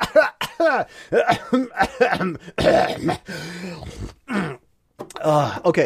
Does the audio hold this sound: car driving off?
no